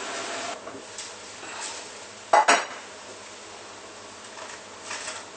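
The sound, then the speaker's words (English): A brief double clatter of whole corn cobs dropping into a metal pot of water that is not yet boiling, for Vietnamese corn pudding, two quick knocks just over a second apart, rising out of a steady low hiss. “We don't have to wait for the water to boil, we can put the corn in already.”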